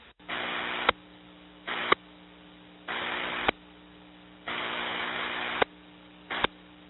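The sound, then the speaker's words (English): Five bursts of hissy radio static from repeated transmitter key-ups by a linking station over a repeater link in Florida, each ending in a sharp squelch click, separated by short gaps over a steady low electrical hum. No one speaks. “Net recognizes a couple key-ups from the linking station W4WPA.”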